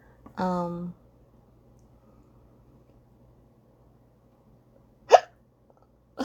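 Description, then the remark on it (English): A person hiccups sharply, a short voiced gulp, then after a pause of several seconds a second abrupt hiccup, with another starting at the very end; fairly loud over a quiet background hum. The hiccups come from eating noodles too fast. “I got hiccups because I was eating my noodles so fast.”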